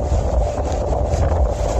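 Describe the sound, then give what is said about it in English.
Ocean waves surging over and breaching the seawall on Charleston's Battery in a steady, heavy roar with deep rumbling and wind buffeting the microphone. No voices are heard. “That's the sound, with a little amateur commentary, of water breaching the seawall on Charleston's Battery.”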